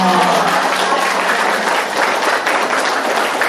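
A loud, steady round of applause from a crowd, dense overlapping clapping that holds at an even level throughout with no voices standing out.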